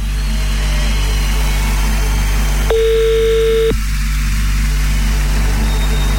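A single one-second burst of a steady telephone ringback tone from an outgoing call to a listener in Moudon, clear and prominent, sounding once over a constant low rumbling background hum.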